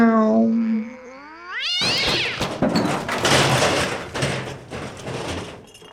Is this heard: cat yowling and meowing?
yes